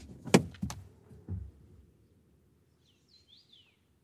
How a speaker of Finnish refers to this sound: Kuunnelkaa, kun linnut laulaa.